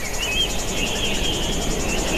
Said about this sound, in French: Il y a même quelques cigales. Et oui, bah oui, c'est merveilleux. On sent le soleil presque.